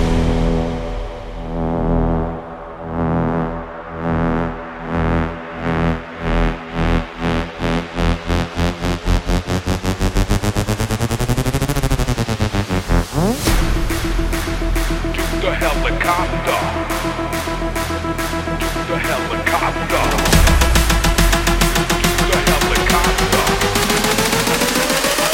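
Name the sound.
helicopter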